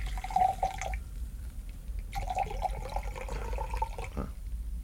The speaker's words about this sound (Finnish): Hei, tästä tulee vielä yhdet molemmille. Saahan kaataa tietysti. Kaada pois.